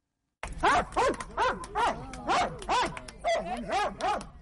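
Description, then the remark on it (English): Senna, a 9-year-old Belgian Malinois mine detection dog, barks loudly, about ten sharp, harmonic barks in a steady, rapid rhythm lasting several seconds, with no talking. “She's a 9-year-old Belgian Malinois, the dog breed of choice for experts securing areas where there are landmines and unexploded bombs and shells.”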